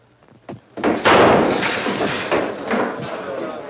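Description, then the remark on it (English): A soft thump comes first, then a loud, sharp gunshot bursts out and trails into a long, rough, slowly fading roar, with a few smaller knocks inside it. “Whoever fired that shot came close to killing Miss Lane.”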